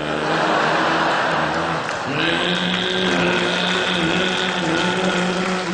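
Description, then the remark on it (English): A loud motorboat engine roars steadily throughout, its droning pitch shifting upward about a third of the way in, then holding a strained, buzzing whine to the end. “Probably wasn't on a speedboat, though, was it?”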